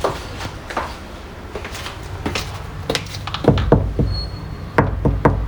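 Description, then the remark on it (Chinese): Knocking on a door: several rounds of sharp raps, starting lighter and growing heavier and more resonant toward the end, with no voices. “打扰一下，我可以进来吗？我开门喽。”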